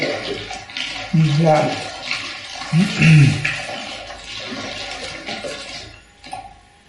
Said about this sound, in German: Gerade die Empfindung, dass da Nebengeräusche sind, die unsere Zuschauer vielleicht nicht deuten können. Also hier gehen Leitungen mit Wasser durch und da fließt ab und zu mal was durch den Raum. Und das hört man dann so.